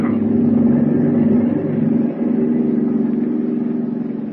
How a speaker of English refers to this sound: We're rising. Start the motors. Hurry. Engine room. Full speed ahead. Diving officer. Surface at once.